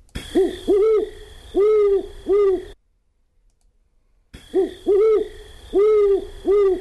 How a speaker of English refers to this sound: So that's a great horned owl. Great horned owl. And we're hearing that this time of year.